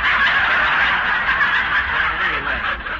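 A crowd of chickens clucks and squawks continuously, a dense, busy chatter of many birds that stays loud for the whole stretch, with no voices over it.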